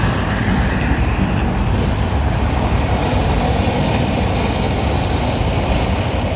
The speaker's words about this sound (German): Alle 15 Minuten bricht der Vesuv aus.